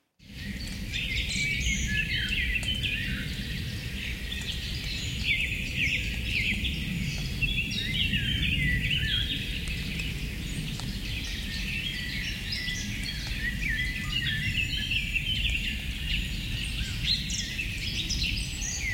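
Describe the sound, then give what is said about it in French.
Many birds chirp and sing continuously over a steady bed of raindrops trickling over the leaves of trees, with no voices present. “Ce son, il faut bien tendre l'oreille, parce qu'on va entendre le chant des oiseaux qui se mêle aux gouttes de pluie qui ruissellent sur les feuilles des arbres.”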